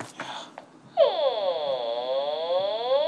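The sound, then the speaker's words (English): A few brief scuffling noises give way to a long, creaking, door-like groan, played at slow speed: a harmonic tone that sweeps into a steady, slightly wavering whine lasting about two seconds, fairly loud and alone. “That sounds like a door.”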